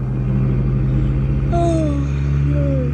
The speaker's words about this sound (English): So far, so good, I guess, because there's George and Brooksy following his car at full speed.